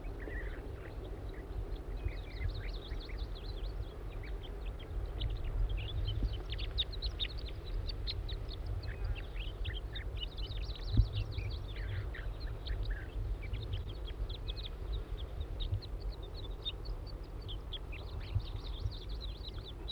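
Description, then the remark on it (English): A young wild bird calls with rapid, high, thin chirps that come in repeated bursts for the whole stretch, over a constant low droning rumble. No one speaks. “It's recording the juvenile again.”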